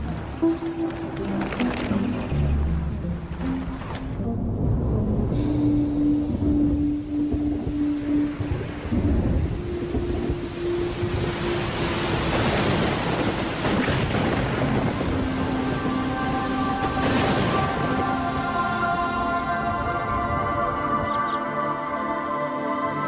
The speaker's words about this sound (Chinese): 这下雨了